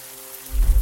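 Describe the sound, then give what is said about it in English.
A low hum gives way halfway through to a sudden, dense rush of heavy rain in the woods, loud, pouring down steadily with no voices. “The rain was coming down harder.”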